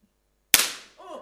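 A single sharp pop from a small indoor firework, bursting suddenly out of silence and fading with a brief crackling tail, followed by a faint harmonic sound.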